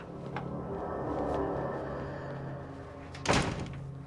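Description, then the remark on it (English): A door opens with a single sharp thunk near the end over a steady low hum, with a faint click just before, as Mr. Bennett answers the door to the Haitian. “Mr. Bennett answers the door to the Haitian.”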